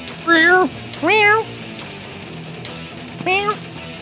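A cat meows three times, two drawn-out meows in quick succession, then a pause and a third, shorter one, over a faint, low background hum.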